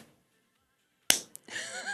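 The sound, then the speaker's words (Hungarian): A single sharp clap, a person imitating the wing-clap a long-eared owl makes by striking its wings together in flight, followed by a brief second tap and then a hissy, breathy vocal sound trailing after it. “hanem a szárnyaival és röptébe összeveri a szárnyat, és ebből ilyen tapsoló hangot ad ki. Ilyen például az erdei fülesbagó is.”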